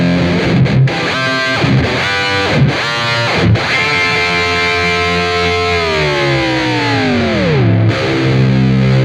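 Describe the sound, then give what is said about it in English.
Heavily distorted electric guitar played loud and alone through a two-octave whammy pedal, a wah, distortion and a little EQ: a few choppy stabbed notes, then a sustained tone that the whammy pedal bends smoothly down by about two octaves into a low growl. “So it's just a whammy pedal and a wah and distortion and a little bit of EQ, pretty much.”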